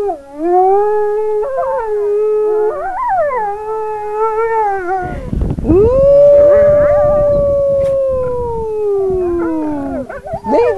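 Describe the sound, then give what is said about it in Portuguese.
Wolves howl in long, wavering tones while a man imitates their howl, as if they were conversing; one drawn-out howl rises and slowly slides down over a rough, noisy background. The sound is loud, with no talking. “faz uma brincadeira e imita o uivo dos animais.”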